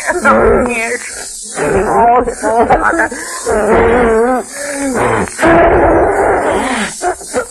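Loud, theatrical crying: choking sobs and wavering wails that break into gasping bursts, rising and falling in pitch with short catches of breath between them.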